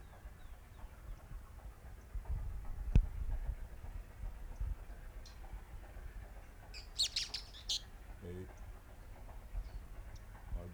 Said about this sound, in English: Three birds singing at one time. Four. Five. All three together.